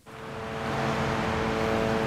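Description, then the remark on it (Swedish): Invisible drones buzz persistently in the sky over Beirut, a steady engine-like drone with a layered hum that swells in over the first moment and then holds at a constant, fairly loud level, with no voices. “Osynliga drönare som surrar ihärdigt på himlen.”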